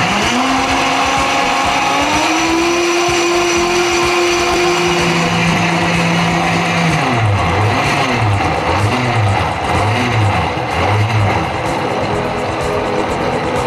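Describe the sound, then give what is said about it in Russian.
A kitchen blender motor, blending fruit with condensed milk and started at low speed, runs loudly and steadily, its whine shifting pitch as the speed changes, then settling into a rhythmic, pulsing growl as the thick mixture churns. “Начнем с малых оборотов. Дадим сгущенке впитаться здесь.”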